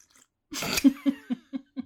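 A noisy slurp of hot tea, followed by four or five soft gulping swallows in a quick, even rhythm. No one speaks.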